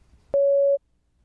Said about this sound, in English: Please prepare your answer after the beep. Please begin speaking after the beep.